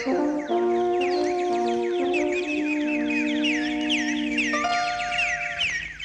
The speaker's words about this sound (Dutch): Met dat prachtige gefluit van vogeltjes kwam een einde aan het liedje